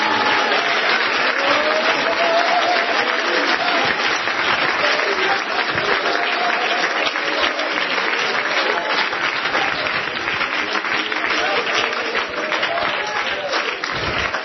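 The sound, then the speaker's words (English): A church audience, standing to their feet, claps hands continuously for the full length, a dense, steady wash of loud applause with faint voices murmuring and calling underneath. “Somebody stand to our feet, clap our hands.”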